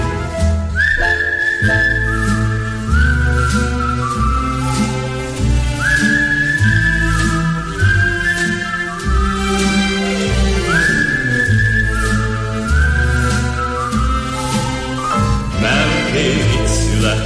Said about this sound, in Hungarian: Ha nem tudok aludni éjjel, és nem jön az álom felé, veszem a kalapot, a kaput becsukom, s fütyülve indulok én.